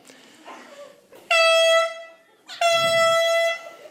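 Two loud air horn blasts, a shorter one followed by a longer one, each a steady, bright, high-pitched honk rich in harmonics, with only faint background noise between them.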